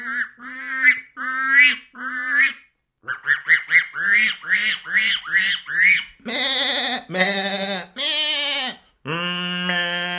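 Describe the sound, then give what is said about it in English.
A man's voice imitates a run of barnyard animals, quacking in quick bursts, then bleating and honking in longer, strained calls, loud with short pauses between each. “… continues through his barnyard repertoire.”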